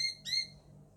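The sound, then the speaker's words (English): Two short, high bird chirps close together, the second a little louder, over a low, steady outdoor rumble with no talking. “Birds, you wouldn't do that to me, would ya?”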